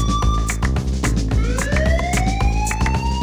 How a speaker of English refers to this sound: Now give me a siren. Just give me a siren. I don't care, find me a siren. I want a siren.